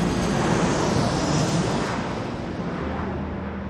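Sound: airplane engine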